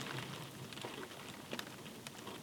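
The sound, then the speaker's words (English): Soft, steady rain patters outside, a continuous hiss broken by a few sharper drips and splashes. It stays fairly quiet and even throughout, with no voices. “Enjoying the sound of the rain outside, how warm and comfy and cozy it is in here with you.”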